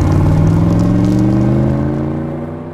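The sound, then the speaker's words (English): A car engine revs and accelerates, its pitch climbing steadily as it pulls away, loud at first and then easing off slightly toward the end. “Call us a car. Yeah, car.”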